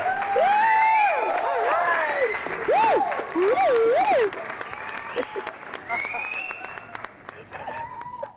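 audience hand clapping

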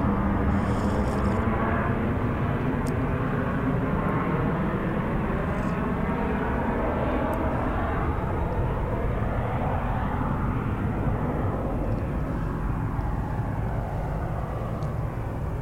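airplane flying overhead

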